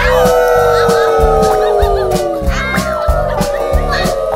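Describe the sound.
A person's voice imitates a wolf howl: one long, sustained wail that slowly glides downward in pitch. It's loud, over a steady, bouncy musical backing beat.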